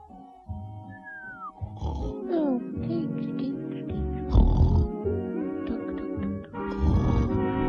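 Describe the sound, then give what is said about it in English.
Comic, exaggerated snoring of Bunter, the fat owl, asleep on a drowsy summer's afternoon, apparently voiced by a person, with loud snorting grunts alternating with high whistling glides over several breaths. “So there was the fat owl, sleeping and snoring in the drowsy summer's afternoon.”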